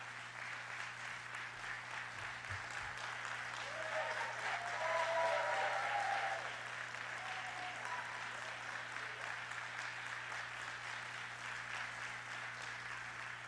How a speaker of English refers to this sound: Let us give Jesus the best clap offering. I think Jesus deserves a better clap offering.